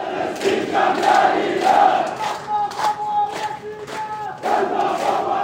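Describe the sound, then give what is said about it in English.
A large crowd of protesters in Tahrir Square, Cairo, Egypt, chants for Palestine in loud, rhythmic unison, 'Ya Palestine, Ihna Asfin, Ihna Kaman Mihtalin', voices rising and falling in repeated phrases with a steady cadence and brief dips between lines, as police push the crowd out. “Police pushed and shoved the crowd out, but not before they could chant, Ya Palestine, Ihna Asfin, Ihna Kaman Mihtalin.”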